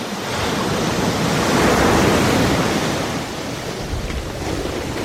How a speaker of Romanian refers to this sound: armata egipteană s-a necat în Marea Roșie, în timp ce pereții de apă s-au prăvălit peste ea.